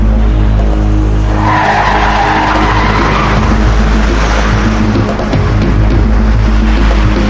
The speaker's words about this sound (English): She turns right, then left into a parking garage. He follows. She speeds through the garage.